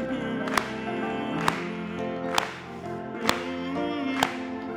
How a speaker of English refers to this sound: Let's just clap.